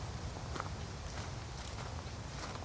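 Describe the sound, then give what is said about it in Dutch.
Steady footsteps crunch along at an even walking pace through a cemetery, over a constant low rumble of outdoor background noise with no one speaking. “En als we dan een stukje verder lopen, dan zien we een ingang tot het columbarium.”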